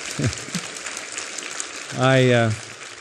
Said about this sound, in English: I didn't say that for you to applaud, but I'm grateful.